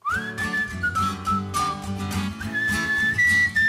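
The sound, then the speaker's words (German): The opening of a song: a bright, cheerful whistled melody glides along on top of briskly strummed acoustic guitar chords, steady, with no voices. “Pfeifend, gut gelaunt, zur schwungvoll geschlagenen Wandergitarre, so beginnt der Song ….”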